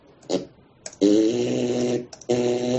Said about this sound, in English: Are you freestyle farting over there? What are you doing? Remix. He's a fartist. He's a true fartist.